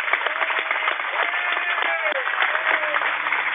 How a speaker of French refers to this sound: Et tout le groupe est réuni autour du micro. Et on va peut-être tous t'applaudir d'un coup, là. J'espère que tu vas l'entendre.